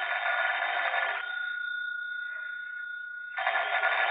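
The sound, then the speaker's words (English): Late in the afternoon, a telephone rings in two loud, buzzing bursts separated by a pause of about two seconds, with a steady electronic tone humming in between. No one speaks. “It was late in the afternoon when Blake's phone rang.”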